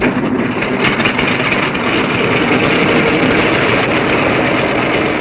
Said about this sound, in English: Well, the moment for the takeoff is at hand now. The planes are revving up. This one you hear is bound for Korea, carrying Keenan Wynn, Walter Pigeon, Dawn Adams, Roscoe H., June Bruner, Paul Douglas, Jan Sterling, and about 20 more.